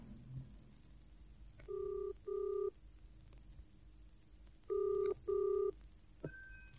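A telephone line rings in the classic double pattern, two short pairs of buzzing rings separated by a pause, heard clearly through a receiver after a few faint clicks of dialing.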